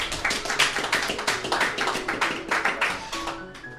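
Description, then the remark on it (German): Steady applause from a group, a dense patter of many overlapping claps that keeps an even pace at moderate loudness throughout, with no voices on top. “Applaus.”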